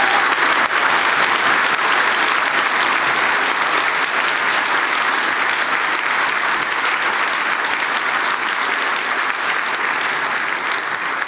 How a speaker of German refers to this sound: Bevor wir zum Q&A kommen, einen großen Applaus für Dustin Hoffmann.